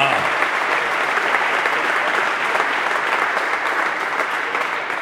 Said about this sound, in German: Sie sind zusammengekommen aus Aue. Aus Aue, meine Damen und Herren. Da fällt mir Folgendes ein. Erstmal, das ist ein Applaus wert. 500 Kilometer für den heutigen Abend.